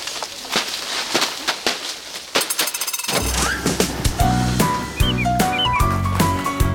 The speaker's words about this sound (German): Wenn auf einer Streuobstwiese mitten im Siebengebirge lautstark Äpfel runterprasseln und die Leute drumherum ziemlich gute Laune haben, obwohl sie gerade körperlich anstrengende Arbeiten machen